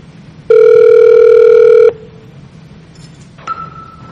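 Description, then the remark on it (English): A loud, steady electronic ringing tone of an outgoing VoIP call placed through Z-Phone, which secures the call, sounds for about a second and a half, then stops; a couple of fainter, shorter beeps follow. No one speaks. “But any kind of VoIP client that uses RTP can be used with Z-Phone. So now I'm going to call”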